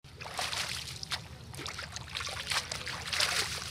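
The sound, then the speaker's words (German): A bunch of leaves being swished and rinsed in sandy water at the bank of the Nile: a steady run of irregular splashes and trickles over a low, constant rumble, with no one speaking. “Soraya wäscht ein Bund Blätter im sandigen Wasser am Ufer des Nils”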